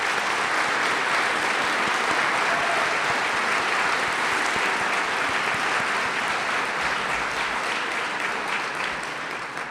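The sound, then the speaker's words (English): A large audience claps steadily and continuously to thank a search committee for its work, a dense, even wash of applause that holds at full strength for about ten seconds with no speech over it. “Please join me in a round of applause to thank the search committee for all their hard work in this process”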